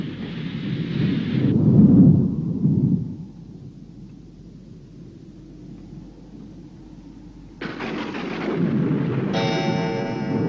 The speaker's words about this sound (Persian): پاییزه، تو کوهستان الان اونجا رعد و برق و بارون داریم